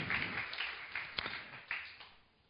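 A small group claps together in a dense, crackling patter with a few sharper individual claps standing out, then the applause thins and fades away over a couple of seconds.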